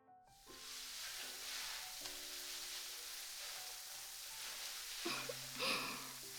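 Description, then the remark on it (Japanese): Fine foam bubbles, small rather than large, crackle and pop steadily across the scalp as scalp care, a dense fizzing sizzle at an even level, with a few brief louder rustles toward the end and a soft tonal hum underneath. “大きな泡ではなく、細かく弾ける泡にて頭皮をケアいたしますね。”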